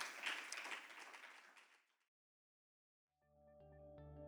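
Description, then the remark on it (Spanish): An audience at New Generation Church applauds the Lord in a dense, steady wash of clapping that fades out over about two seconds. After a brief silence, sustained keyboard chords begin playing. “De un aplauso al Señor, give the Lord an offering, amen.”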